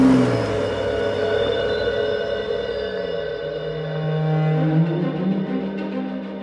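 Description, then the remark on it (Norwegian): A car engine starts at night and hums steadily, its pitch dipping and then climbing again as it revs and pulls away through the streets of London, fairly loud throughout with no voices. “Like etter skar lyden av motoren som startet gjennom nattemørket, og så kjørte de av sted gjennom Londons gater.”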